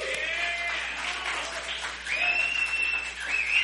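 A crowd applauds with dense, steady hand clapping that fills the whole stretch, with a few whistles and cheering voices rising over it toward the end.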